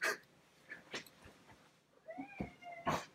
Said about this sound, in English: So, I'm sorry, I'm a little distracted because my cat is moving the light in the background here. One second.